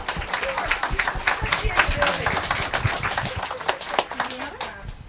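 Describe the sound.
A round of applause from a crowd: dense, steady clapping fills the whole stretch at an even loudness, with a few voices faintly mixed in underneath.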